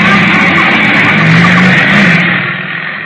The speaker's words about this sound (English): A motorcycle, jet-propelled by a black-haired lunatic in a leather jacket with a blonde beauty riding behind him. The handlebar missed goring me by inches.